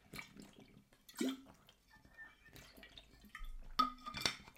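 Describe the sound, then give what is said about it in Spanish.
Someone drinks water: soft wet sips and gulps, a few quiet liquid swallows and small clinks spread over a few seconds, with no talking. “perdón, me voy a volver a beber agua, un segundito.”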